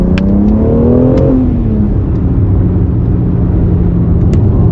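The engine of an X4 M car revs up loudly in second gear at about 30 km/h, its pitch climbing for about a second before settling into a steady low rumble as the car keeps accelerating.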